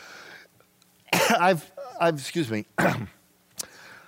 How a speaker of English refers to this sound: I'm supposed to cough on my elbow. There, I'm better.